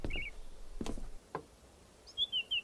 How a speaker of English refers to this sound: On the opposite side of the tower on the roof, a small thrush.